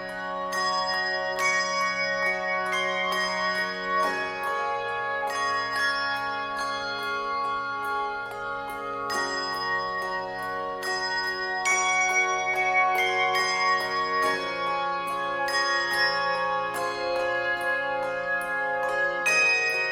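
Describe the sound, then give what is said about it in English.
A handbell ensemble rings out a slow, gentle traditional Christmas carol melody, with bright sustained tones layered over low ringing chords, steady throughout with no voices. “the Sonos Handbell Ensemble playing a traditional Christmas piece, Silent Night”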